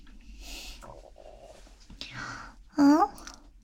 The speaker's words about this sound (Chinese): 我好像听到你肚子叫了，是不是饿了？